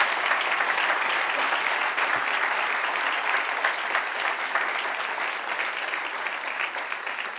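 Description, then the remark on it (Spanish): A crowd claps steadily for several seconds, applauding the one who reigns, a dense, continuous patter of many hands that stays loud and even throughout, with no one speaking over it. “Dele un aplauso al que reina.”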